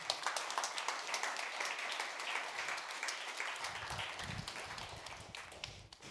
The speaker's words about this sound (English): Please welcome with a warm applause